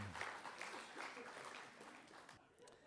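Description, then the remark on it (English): A round of applause from a group for volunteers who take up the challenge of reaching into a jar of slime to find two buried 1 pound coins: dense, steady crackling claps that hold for a couple of seconds and then begin to die away. “Well, a round of applause for brave volunteers.”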